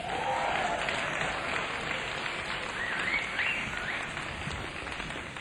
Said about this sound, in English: I should also add that for all those of you who've always wanted to be on record or on the radio, tonight is the evening because tonight we are recording for Vara Radio. So if you want to clap, now's the time to clap.